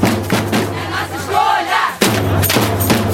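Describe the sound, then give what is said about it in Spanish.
A protest crowd of about a hundred people chants and shouts together in the streets of central Rio de Janeiro, Brazil, on International Women's Day, 8 March, a loud, dense wash of voices with rhythmic surges, a brief dip near the middle, then a sharp swell of massed voices. “En Río de Janeiro, un centenar salió a las calles del centro de la ciudad para protestar.”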